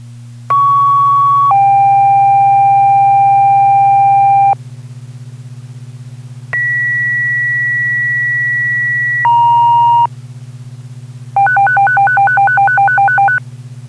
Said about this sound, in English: Tones for all Claremont Fire Department personnel. Sounding a general alarm at 12 Cottage Street, that's 12 Cottage Street, for a structure fire, working fire at this time, possible victims trapped inside.